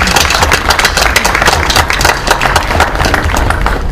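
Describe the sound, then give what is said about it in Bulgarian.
Sustained crowd applause, a dense, steady wash of many hands clapping at once, loud throughout, with a low rumble underneath and no voices. “Моля за вашите аплодисменти в тяхна чест!”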